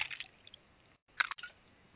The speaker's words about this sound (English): All right, let me get a big gulp of a low-cal Gatorade because I'm going to lose some weight.